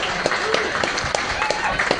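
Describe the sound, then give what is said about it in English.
An audience at a live-streamed show applauds in a steady, dense wash of clapping, with faint voices and calls mixed into the crowd noise throughout. “By your applause, let's everyone know.”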